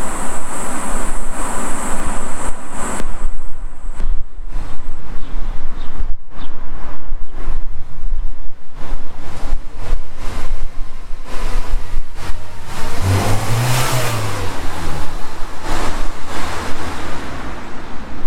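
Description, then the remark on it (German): A black Golf car drives past against steady road noise, its engine and tyre hiss swelling to a loud peak near the end before easing off. No one speaks. “Ein schwarzer Golf fährt vorbei, er schaut sich ein bisschen herum.”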